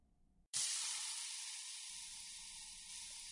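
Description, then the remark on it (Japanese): Water suddenly gushes from a tap after a brief quiet moment, then runs in a steady, loud hiss while dishes for two people are washed in a sink after dinner. No one speaks. “よーし、皿洗い終わり。”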